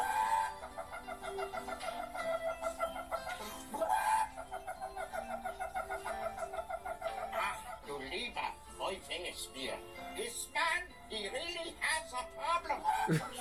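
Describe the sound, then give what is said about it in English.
Chickens cluck steadily in a lively barnyard chorus, and a rooster breaks in with loud crowing calls partway through and again near the end. “Hey, thanks for the chicken.”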